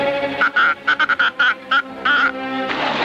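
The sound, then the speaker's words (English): A purple horn-shaped creature with duck's feet gives a rapid string of honking, duck-like quacks, about ten short loud bursts in an uneven rhythm, with a longer honk near the end and no talking. “She steps on a purple horn with duck's feet. It collects a group of baby horns and shoos them into a pond.”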